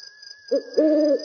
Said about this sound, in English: That's probably just an owl.